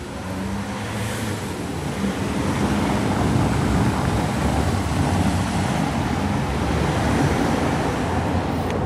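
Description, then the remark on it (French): A delivery truck with its hazard lights on idles in front of a Spar shop on a town street in Arras at 6 a.m., its low engine rumble steady and continuous beneath a broad wash of outdoor traffic noise, with no voices. “Il y a un camion qui attend, qui a mis ses warnings devant le magasin Spar.”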